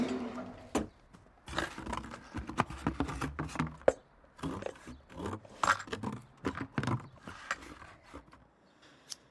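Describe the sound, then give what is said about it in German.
Scissors snip and saw through packing tape on a cardboard box, a run of crisp, irregular cuts and scrapes with brief pauses, no talking, fading at the end. “Alles dicht mit Klebeband. Ich hol die Schere.”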